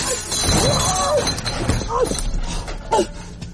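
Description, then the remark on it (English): A milk float crashes after hitting the curb on a corner: a loud crash with glass milk bottles shattering and clinking across the ground, followed by scattered tinkling of broken glass, with shouting voices and a yelping cry mixed in. “I think you hit the curb on the corner. Oh, look at the mess. So, milk bottles are strong, are they?”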